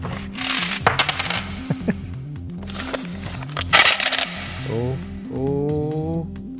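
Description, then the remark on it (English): A coin clatters down into a coin pusher machine, with bright metallic jingles and clinks over a steady arcade hum and looping electronic melody, followed by rising chime tones. “Whenever you're ready, release the coin.”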